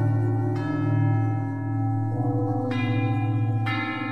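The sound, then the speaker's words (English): A cathedral church bell rings with three fresh strikes over a deep, sustained humming tone, each clang blooming into bright overlapping overtones that linger and fade. No voices are heard. “Bells are percussion instruments that have been around since time immemorial.”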